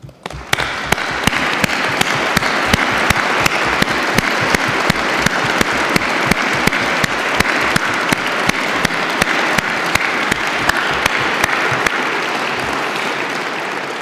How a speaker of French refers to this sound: J'invite les lauréats de ces différents prix d'économie à se lever et l'auditoire à les applaudir.